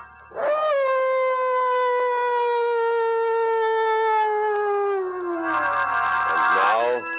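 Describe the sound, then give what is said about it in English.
Mad dogs howling loudly in a story set in darkest Africa: one long, sustained howl slowly sinking in pitch for several seconds, with a second wavering howl overlapping near the end. “John Carradine isn't exactly soothing to your nerves, but put them together in a story set in darkest Africa with mad dogs howling in the background and, whew, well, find out for yourself.”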